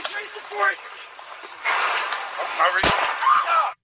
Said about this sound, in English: And there you hear what ended up being the fatal gunshot, which you heard from several different of the body cam footage.